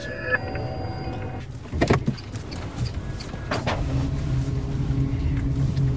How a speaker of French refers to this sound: Comme vous pouvez l'entendre, c'est effectivement très silencieux comme voiture